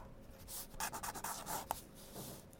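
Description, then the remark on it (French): A pen scratches across paper in quick, irregular strokes as someone sketches a person, fairly quiet, with clusters of short scraping bursts and a sharp little tick near the end, no voices. “Bien sûr, il avait bégayé un peu pour la forme, et puis avait bien vite oublié le bruit de la plume qui courait sur le papier.”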